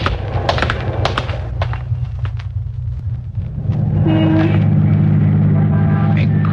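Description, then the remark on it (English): A car engine rumbles steadily through busy street traffic, with scattered knocks and passing clatter early on, then a louder, denser drone of vehicles. No voices. “Boys, a lot of traffic out, more than we counted on.”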